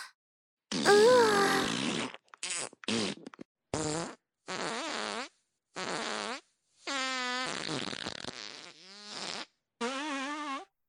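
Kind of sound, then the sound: human body sound, fart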